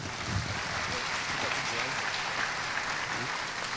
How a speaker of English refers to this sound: Another clap offering for these.